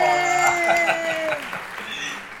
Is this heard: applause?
yes